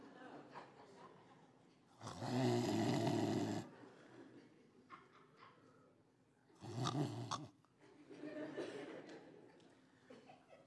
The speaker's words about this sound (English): It was a terrible snore, too. It's one of those where you kind of hear the snot going in and out. You know what I mean?